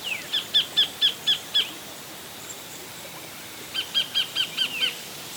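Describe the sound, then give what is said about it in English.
A tiny kingfisher perched on a rock in a creek gives two bursts of shrill, rapidly repeated high calls, about six or seven notes each, with a short pause between, over a soft background hiss of water splashing through the rocks. “Look, this tiny little kingfisher has stopped on a rock.”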